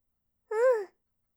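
A girl gives one short, high-pitched voiced yawn, caught from her older brother's yawn, its tone rising and then sliding back down over less than half a second, with silence on either side.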